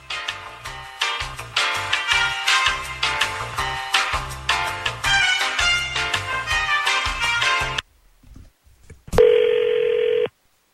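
Upbeat music plays for several seconds, stops, then after a click a single steady ringback tone sounds for about a second, the buzzing ring of an outgoing phone call placed by the hosts of the 102.9 The Wolf radio morning show.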